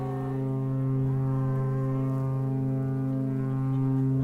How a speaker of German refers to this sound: ein letztes Mal erklingt das mächtige Horn, bevor das geliebte Postschiff für immer hinter dem Horizont verschwindet